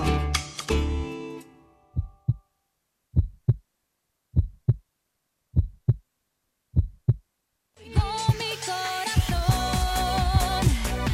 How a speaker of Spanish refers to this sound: Acordando de una cosa, escuchando el latido del corazón, Jesús Sánchez Martos, buenos días. Muy buenos días, ¿a quién se le habrá ocurrido por esta música y este latido?